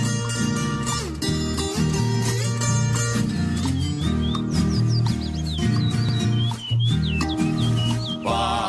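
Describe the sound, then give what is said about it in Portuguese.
Birds chirp and trill in quick, rising whistles that repeat through the second half, layered over loud, steady instrumental music with a deep, sustained bass. “Ferro tangará, sabiá, saracurá, assanhaço faz regência, canta no pé de mamão.”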